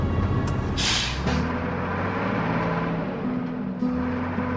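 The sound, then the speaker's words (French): A Moldovan driver's heavy truck idles in Bulgaria with a deep, steady engine rumble, and near the start a short, sharp burst of air-brake hiss sprays out before the motor drones on alone. “Mais mon rêve à moi, c'est ce poids lourd.”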